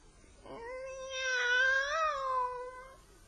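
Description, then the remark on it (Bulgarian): A single drawn-out meow from a cat with one blue eye and one black eye, fairly loud, rising and wavering in pitch over about three seconds before trailing off, with no talking. “Котка? За какво ти е? Тя не е обикновена котка.”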